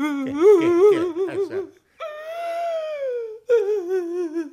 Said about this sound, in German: Och, tu ich mir leid. So leid, dass ich weinen muss.